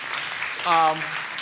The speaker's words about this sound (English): I noticed that most of you applauded.